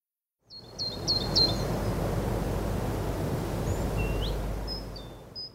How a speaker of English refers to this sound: Can you hear the birds? My bedroom is up in the trees.